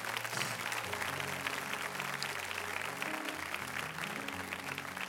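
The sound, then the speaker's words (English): A church audience gives God a hand clap of praise, clapping together in a dense, continuous wash of applause that holds steady for several seconds, with low sustained tones humming underneath. “Church, let's give God a hand clap of praise.”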